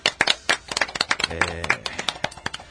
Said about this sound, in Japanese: 知ってる就活、働く子を考えるライブトーク番組、今日で260回目がした。拍手。 イエーイ。